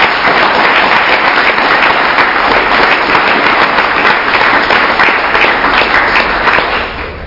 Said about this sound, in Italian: Grazie, un altro applauso per i giovani italiani.